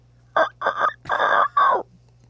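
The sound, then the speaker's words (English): A person's voice imitates a rooster crow in four loud, strained bursts, rising and breaking, with a low hum underneath and no talking. “That was kind of scary. Didn't sound very good. I'll work on my rooster crow.”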